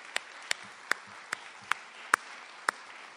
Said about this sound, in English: Welcome to main stage number 2 at the very wonderful MDYP. How about a round of applause for this beautiful place and its great staff? Yeah.